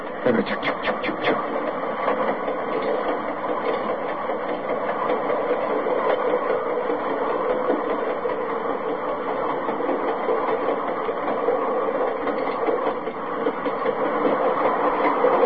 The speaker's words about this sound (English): This is the sound of a train passing a grade crossing.